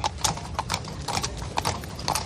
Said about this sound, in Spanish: Ahí estamos escuchando precisamente el sonido de los caballos, de ese coche de caballos que está llevando los restos mortales de … por las calles de Sevilla